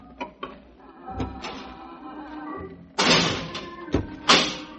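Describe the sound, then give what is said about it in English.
A door in a lockup, leading to the old keep, a former dungeon, opens: a few light clicks and a thump, then a loud rushing scrape with two sharp latch-like clacks near the end. No one speaks. “Right through this door, please.”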